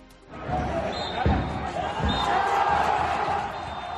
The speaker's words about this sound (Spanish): Es el pitido final en la Balastera. Es euforia en estado puro, la de todos los que formaban parte de Palencia Cristo Atlético y también de las cerca de 2.000 personas que se acercaron hasta la Balastera a arropar al equipo.